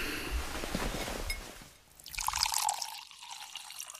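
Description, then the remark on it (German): Water is poured steadily into a glass, starting as a splashy gush and then settling into a brighter, rising gurgle as the glass fills, with no talking. “Noch etwas Wasser”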